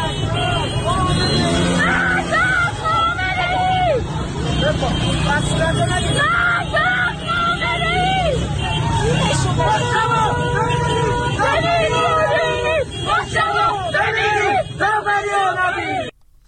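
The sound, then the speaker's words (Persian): A large crowd of protesters chants and shouts loudly and continuously outdoors on a Tehran, Iran expressway blocked by stopped cars on Thursday night. Voices overlap in rhythmic calls of "Death to Khamenei" as banners of Ayatollah Ali Khamenei burn, with a steady rumble of idling vehicles beneath the noise. “در ویدیوهای منتشر شده یکی از اتوبان‌های تهران شبانگاه پنجشنبه با توقف خودروها بسته شده، بنرهای آیت الله علی خامنه‌ای همراه با شعار مرگ بر خامنه‌ای به آتش کشیده شده است.”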